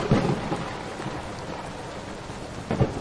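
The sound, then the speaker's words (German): Steady, dense rain hisses throughout, with low rumbles of thunder swelling near the start and again toward the end. No voices are heard. “Dicht gedrängt hockten die Tiere nebeneinander und lauschten dem Sturm.”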